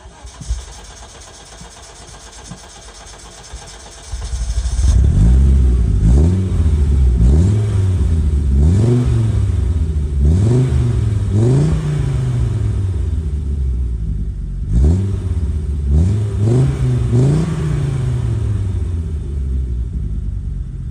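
An Audi Quattro (Ur-quattro) car engine starts after a few quiet seconds, then revs repeatedly in rising and falling bursts, loud, with a brief dip before more revving. No one speaks.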